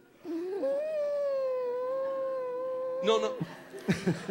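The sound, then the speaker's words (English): A single voice holds one long, steady hummed note for a few seconds, a little wavering at the start, then it breaks off into brief bursts of talking. “And I want you to hum that same note, breathing in.”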